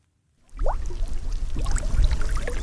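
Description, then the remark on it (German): Gas bubbles rising on the Olsberg reservoir near Paderborn, Germany, as the lake bed is stirred with a stick: water bubbling and gurgling steadily after a brief silence, with scattered golf-ball-sized bubble pops and low churning underneath, moderately loud, no voices. “Es blubbert auf dem sonst so stillen Stausee Olsberg bei Paderborn.”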